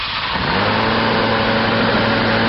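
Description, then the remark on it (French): A Scutux compressed-air scooter engine, created by inventor Edouard Mascaron, spins up and then runs steadily, loud, with a droning mechanical hum over a constant airy hiss and no voices. “Le créateur même de ce moteur à air comprimé.”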